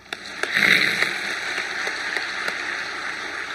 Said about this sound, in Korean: 다 같이 박수.